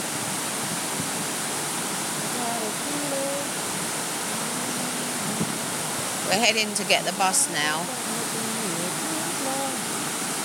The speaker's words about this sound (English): It's like a brick wall. And you're taking a picture? Yeah. It's a waterfall. I think it's to do with, it's part of the river. I don't know why they did this. There must be a reason for it.